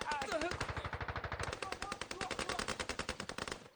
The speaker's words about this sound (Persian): خدایا شوش، زدیمشون. با این شلیک وقت چندانی برای اینجا موندن نمونده.